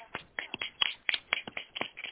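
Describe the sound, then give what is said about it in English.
A small group claps briefly for everyone who did their homework, with scattered, uneven hand claps, sharp and fairly soft, over about two seconds and no voices. “Everybody who did homework, let's give a clap for them, y'all.”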